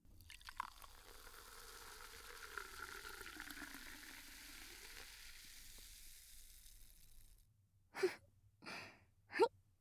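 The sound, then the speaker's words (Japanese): Carbonated cider is poured with a steady crackling fizz for about seven seconds, its tone shifting as the glass fills. It then stops, followed by three short breathy bursts. No one speaks. “いい音ですよね。シュワシュワーって。”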